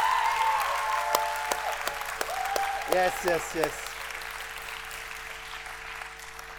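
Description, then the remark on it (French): An audience claps steadily to encourage the people about to come up and share their stories, a dense crackling wave of applause that fades gradually, while a voice calls out excitedly a few times over the clapping. “Est-ce qu'on peut les encourager par applaudissement?”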